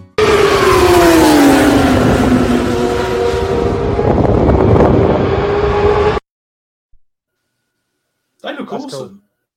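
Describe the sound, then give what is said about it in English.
Loud, roaring BCV8 racing car engines fill the first six seconds during a BCV8 race, with harmonic tones sweeping down as cars pass, over a rushing wind-like noise; then sudden silence and a brief burst of voice. “I think we might have a little video to show of the BCV8s if you want to see it.”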